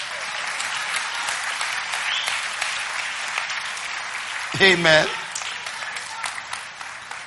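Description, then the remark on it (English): A crowd claps steadily in a dense, even patter of many hands for several seconds, and a single voice calls out briefly partway through while the applause continues. “That's why God gave me to you as a father now to tell you, okay, from this point on, get it right. Clap.”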